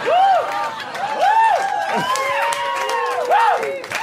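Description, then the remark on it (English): A live audience bursts into loud applause and cheering, with rising and falling whoops and shouts soaring over steady, dense clapping for about four seconds. “Every person applauding has Spotify.”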